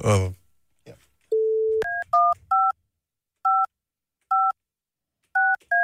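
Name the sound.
phone keypad dialing tones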